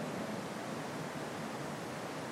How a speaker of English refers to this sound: You don't have a shelter, even as we hear the rain coming down. You're going to sleep wet tonight.